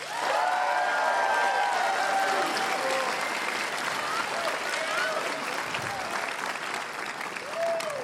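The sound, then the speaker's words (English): Sustained applause from a large audience welcoming a university's Vice President of Student Life fills the whole stretch, a dense steady wash of clapping with scattered whistles and a few cheering voices rising over it. “Can you please welcome, with thunderous applause, our Vice President of Student Life,”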